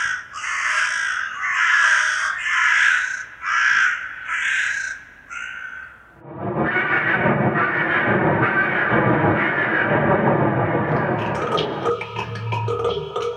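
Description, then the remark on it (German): A young crow or raven gives a rapid series of about seven harsh, raspy calls, then falls silent as a dense, continuous wash of louder sound takes over. “Heute zu Raben und Krähen.”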